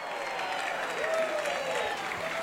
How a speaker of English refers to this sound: And it comes in, and it looks like a fan might have caught that in the left grandstand, and everybody cheering.